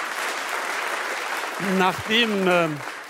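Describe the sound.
A live audience in a chamber music hall in Cologne applauds steadily throughout at the host's invitation, a dense wash of clapping from many hands, while a person starts talking over it partway through.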